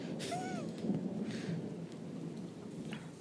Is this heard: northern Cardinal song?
no